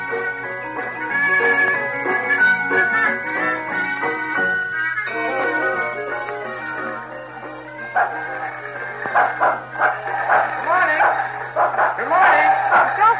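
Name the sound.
dog barking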